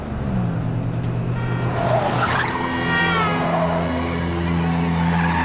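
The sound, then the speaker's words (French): In the 1971 film Duel, a car engine roars steadily throughout while an oncoming car coming the other way on the road rushes past, its pitch sweeping as it goes by, with a brief squeal of tires. “Et tente de provoquer un accident en faisant signe de la main pour laisser passer David Mann alors qu'une autre voiture arrive à contresens.”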